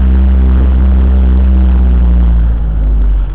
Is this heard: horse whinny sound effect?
no